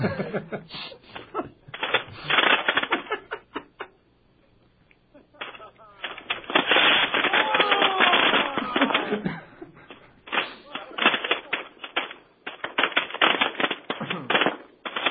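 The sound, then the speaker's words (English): A string of firecrackers set off for New Year rattles off in rapid, loud crackling pops, with a brief lull midway before another long volley; faint voices and laughter mix in. “All right, now some firecrackers for you.”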